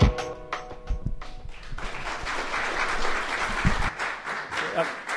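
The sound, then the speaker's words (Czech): An audience breaks into applause after a brief musical ending of a Christian worship song. The clapping swells into a dense, steady wash of many hands that continues loudly to the end. “Tak abych ten potlesk k němu.”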